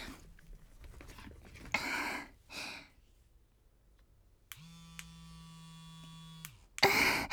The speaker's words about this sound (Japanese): 聞こえたかな、この音。私、クリトリスが弱くて。で、また、クリトリスも攻めてくれる電動バイブ持ってるんだけど、今日は特別に、これをあなたの前で使おうかなって思って。